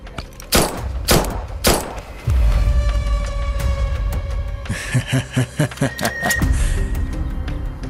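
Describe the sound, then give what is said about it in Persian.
Several sharp gunshot-like bangs ring out, a quick volley early on, then a rapid irregular burst of shots with clattering and rumbling noise beneath, fired without real bullets. “دفعه بعد با گلوله واقعی میاییم.”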